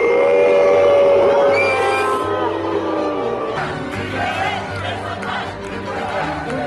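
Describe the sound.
Local fans in a large stadium crowd boo at a match against Israel: loud, sustained booing swells at the start, then settles into a dense wash of shouting and jeering voices throughout.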